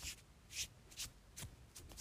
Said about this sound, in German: Das nervt mega. Ich kratze die ganze Zeit. Entschuldigung. Ich bin momentan ein bisschen aufgeregt. Ja, hört ihr es so?